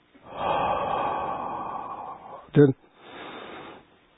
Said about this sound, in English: We exhale long, slow from mouth.